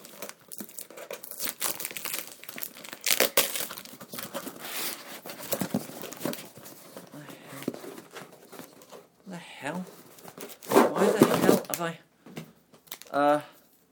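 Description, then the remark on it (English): Packaging crinkles and crackles in irregular bursts as a parcel containing a Hoover pipe for a Dyson is unwrapped, with occasional tearing sounds. A voice is briefly heard near the end. “No idea the hell it is, but yeah, he gave me a parcel. I have no idea what the hell this is.”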